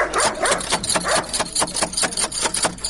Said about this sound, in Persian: اوهو، این چی سگ خطرناک داره که نخوریم. الان دروازه را بسته کن که سگ نخوریم.